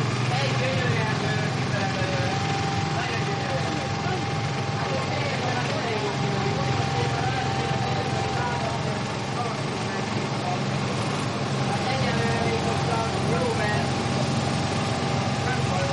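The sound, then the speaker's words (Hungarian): The engine of a second water pump at a mud mound runs loudly and steadily, a continuous droning rumble with a low throbbing hum and a broad mechanical roar that holds at an even level throughout. “A második szivattyú.”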